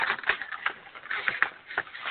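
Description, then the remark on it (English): Paper rattles and crinkles in a string of irregular, crackly bursts, soft and scratchy, with no voices over it. “Somebody's rattling paper.”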